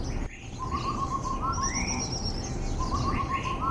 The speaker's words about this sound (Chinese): 龟龟龟和咕龟的鸣唱声不绝于耳，大约有五只活泼好动的鸟儿的即兴乐章。仔细查看，这些鸟儿的造型十分有趣，黑色的过眼线，感觉好像头上戴着黑色的面具，像极了蒙眼大侠。